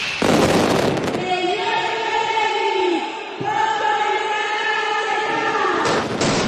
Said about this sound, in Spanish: Es una labor indispensable, sobre todo en las últimas semanas que estábamos en el taller, pues oímos muchas veces la mascleta a través de la radio.